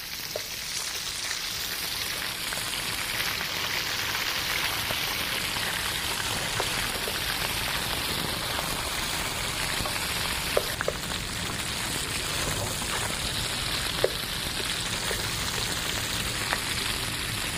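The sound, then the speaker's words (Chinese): Meat sizzles steadily as it is pan-fried until golden, unsalted until cooked, a dense, even hiss of crackling oil broken by a few sharper pops, with no voices over it. “我们让它煎熟了后，要上桌前再撒点那个玫瑰盐。”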